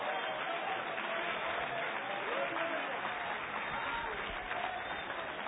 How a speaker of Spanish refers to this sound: Denle un aplauso al Señor en esta noche.